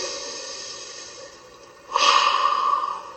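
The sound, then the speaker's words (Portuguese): A slow, steady breath drawn in through the nose, followed by a louder, breathy exhale pushed out through the mouth, alone with no talking. “Ó, você inspira pelo nariz e solta pela boca, é isso mesmo?”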